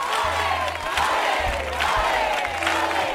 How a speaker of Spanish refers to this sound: Fuerte, fuerte, fuerte. Atronadora la ovación. El debut.